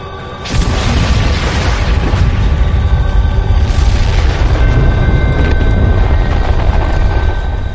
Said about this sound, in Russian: И в этот момент ударил взрыв.